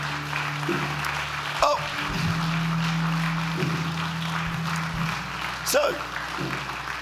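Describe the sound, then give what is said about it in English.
Sustained applause from an audience, a dense steady patter of many hands clapping for several seconds, with a low hum and a couple of brief louder bursts rising over it. “Come on, give a big clap and thank them.”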